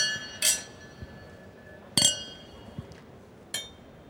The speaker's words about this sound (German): lasst uns unsere 7. Flasche Champagner aufmachen und zusammen anstoßen auf die goldene Podcastblase 2020.